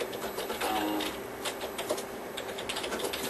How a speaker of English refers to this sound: Nancy, I hear you typing away.